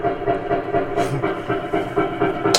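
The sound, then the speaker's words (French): Jackhammers pound away in a dense, continuous mechanical roar with a steady rhythmic rattle, loud throughout, with a brief hissing burst near the end. No voices are heard. “Ouais, c'est des marteaux piqueurs.”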